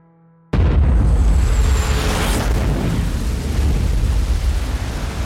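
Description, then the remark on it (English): An enormous explosion over Lockerbie at 7:03 in the evening, on the shortest day of the year, bursts in abruptly after half a second of quiet. A fireball lights the night sky. A heavy, roaring rumble sustains loudly with deep low-end energy for several seconds without fading. The blast registers 1.6 on the Richter scale and is felt several miles away. “At 3 minutes past 7 o'clock, night turns to day as the sky is lit up by an enormous fireball. The very earth beneath Lockerbie shakes.”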